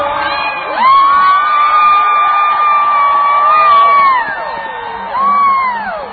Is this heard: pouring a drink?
no